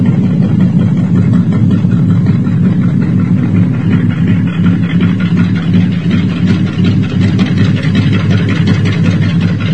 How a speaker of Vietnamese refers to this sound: Nhờ nước nổi nên Tư Cầu nghe rõ mồn một tiếng xình xịch đều đều, mỗi lúc mỗi to dần. Đúng là tiếng máy tàu, và đúng là tàu tuần của Tây.